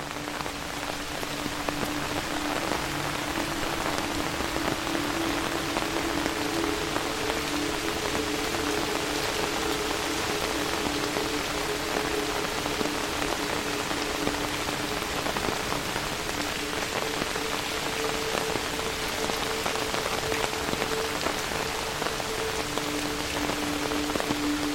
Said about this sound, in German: Die Tiere haben sich zurückgezogen und nur das leise Plätschern des Regens erfüllt die Stille.